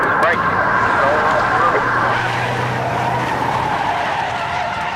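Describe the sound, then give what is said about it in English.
Several police vehicles skid hard as they whip around to pursue a bail jumper's pickup truck, kicking up debris, tires squealing loudly and continuously over a roaring engine rumble for the full few seconds, intense. “Chief Young and the others whip their vehicles around, kicking up debris”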